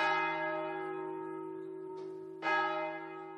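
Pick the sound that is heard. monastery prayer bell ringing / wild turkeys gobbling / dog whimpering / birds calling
monastery prayer bell ringing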